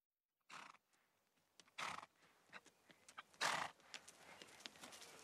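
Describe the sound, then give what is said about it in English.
The steeplechase horse Moscow Flyer ambles over with scattered, uneven hoof clops, broken by a few loud breathy snorts and a whinny, with no one speaking. “Moscow Flyer, one of the greatest steeplechasers of all time.”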